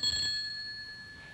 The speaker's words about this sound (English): Go in when you hear the bell.